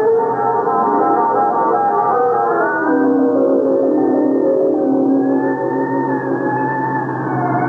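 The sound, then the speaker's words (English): An ambulance siren wails loudly and continuously, its pitch sliding slowly up and down, with a low engine rumble beneath and no voices. “We'll get you an ambulance.”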